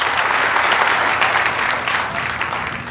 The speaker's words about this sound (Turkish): alkışlarınızla ödülünü almak üzere sahneye davet ediyor.